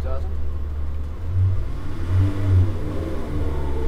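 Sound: car engine revving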